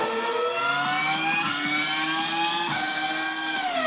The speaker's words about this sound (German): die Motoren röhren. Das Benzin explodiert. Die Reifen reiben ab.